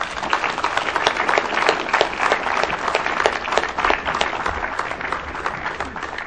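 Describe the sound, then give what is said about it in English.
An audience at the end of a panel discussion claps steadily for several seconds in thanks to the organizers, a dense, even patter of many hands at moderate loudness with no voices standing out. “I'd like to have a round of applause for them.”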